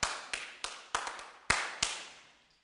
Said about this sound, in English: What is that? Hands clapping, right? So do you guys ever clap in rhythm?